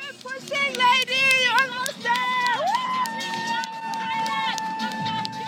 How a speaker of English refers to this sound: And gathered all along the course are thousands and thousands of spectators, singing, cheering, and encouraging the runners on.